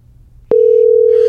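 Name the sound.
phone call ringing tone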